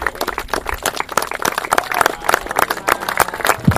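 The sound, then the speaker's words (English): An audience applauds steadily as an etching is unveiled, a dense wash of many hands clapping at once, crisp and bright, sustained at an even loudness without voices standing out. “And keep that applause going as we unveil it.”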